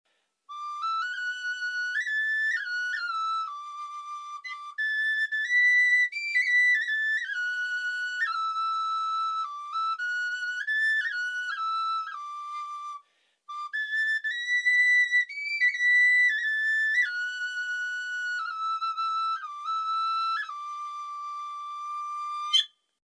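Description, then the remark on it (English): A high, whistly medieval bone or wooden flute plays a stepwise melody on its own, in two long phrases split by a brief pause, with held notes and quick ornamented turns throughout. “was another one of their leisure activities, as we can see here from the bone and wooden flutes, drums or the string viol.”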